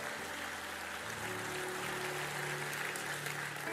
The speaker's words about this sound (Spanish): ¿Cuántos pueden decir amén? Un aplauso fuerte. Vamos a dar gracias al Señor.